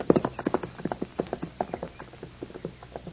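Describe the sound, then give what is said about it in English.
A horse's hooves clip-clop in a steady, brisk rhythm of sharp knocks, clear, with no voices over them. “I left my horse over the rise there, Snyder. Would you get him for me, please?”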